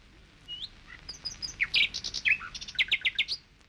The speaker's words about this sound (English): I could actually let listeners hear the song of this bird or that bird, and this had never happened before.